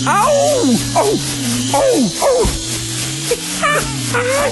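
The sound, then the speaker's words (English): A steady, loud drone of a hive of angry bees buzzes throughout, nearly drowned out by a string of wailing, yelping cries that rise and fall every second or so. “ain't no laughing place, Brer Rabbit, ain't nothing but a hive of angry bees”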